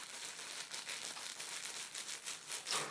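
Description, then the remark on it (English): Crinkly, paper-like material rustles and crackles inside the wings and tail of a big plush toy, a fairly quiet stream of rapid, irregular crinkles that continues throughout, with no voices. “It's inside its wings has got that, and its tail has got that sort of crinkly stuff. Like, I think it's just like paper, but it makes a nice noise.”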